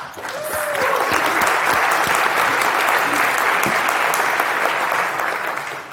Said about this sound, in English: So round of applause for her.